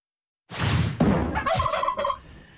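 A turkey gobbles loudly, a rapid warbling burst lasting about two seconds after a moment of silence, with no voices present.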